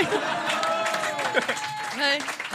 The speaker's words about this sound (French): Vas-y, t'as applaudi à ça, toi, la fille du deuxième mort. T'as applaudi à ça.